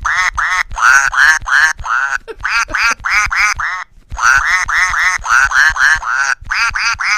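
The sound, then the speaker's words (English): A squeaky duck puppet toy named Ducky quacks in rapid, rhythmic bursts, loud, with a brief pause midway before the nasal quacking resumes in a quick, song-like pattern as the puppet sings. “And Ducky wants to sing for you.”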